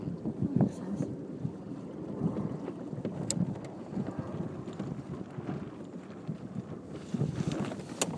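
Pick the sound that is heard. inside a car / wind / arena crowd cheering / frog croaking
wind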